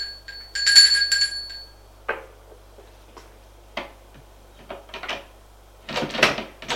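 household object, doorbell ringing

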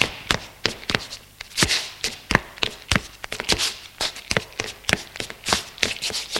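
human body sound, footsteps going down stairs

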